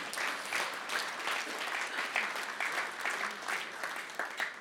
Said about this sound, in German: Komm, lass uns, ja, können wir mal klatschen. Ja.